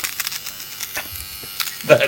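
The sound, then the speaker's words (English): A small electric nose hair trimmer buzzes steadily with a high, thin whine, its tone wavering and crackling briefly as it cuts, with faint voices underneath. “That's 56 years of nose hair.”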